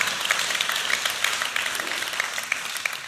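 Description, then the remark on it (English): An audience claps steadily, with many hands producing a dense, crackling wash of applause that holds at an even level for about three seconds without anyone speaking. “come on, somebody should clap right there or something.”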